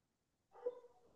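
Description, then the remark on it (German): A pet dog lets out a single short bark after a moment of silence, followed by a brief trailing whine. It is fairly faint, and no one speaks. “Und da meldet sich dein Hund.”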